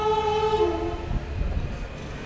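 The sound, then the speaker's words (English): A passenger train full of people travelling to London passes: a steady, harmonic horn blares at first and fades away, leaving a loud, low rumbling roar of wheels and carriages, with no voices. “There's a train full of people probably spending even more than I'm about to spend to get to London.”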